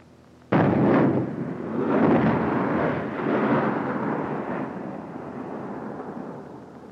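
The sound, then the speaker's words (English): 60-millimeter mortar high-explosive rounds from a mortar mission go off at night with one sudden, loud blast, followed by a deep rolling rumble that swells again a couple of times as further bursts echo and slowly fade. No one speaks. “every once in a while, a 60-millimeter mortar mission is called out to our left front hole mountain out there.”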